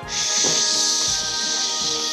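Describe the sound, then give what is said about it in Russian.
Several voices imitate a cold autumn wind with a long, steady breathy hiss and shushing rustle, loud and sustained for about two seconds with slight swells, no words spoken. “Холодный, прохладный ветер, да? Шуршащий.”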